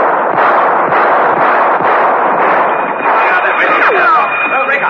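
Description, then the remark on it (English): A few sharp warning gunshots, fired at the end of a monastery passageway by a man fleeing, crack out amid a dense, roaring wash of noise and shouting voices, with thin high whistling tones rising in the second half. “Rostov, at the end of the passageway, whipped up a few warning shots and raced to the next corridor.”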